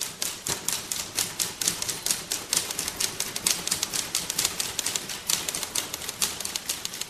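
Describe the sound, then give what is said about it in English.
Many typewriters in a typewriter orchestra clack together in a dense, busy flurry of overlapping keystrokes, a continuous rapid patter of sharp mechanical taps with no voices. “She's really a visual artist, actually, but she likes to use sound as well, and she's done things like a typewriter orchestra.”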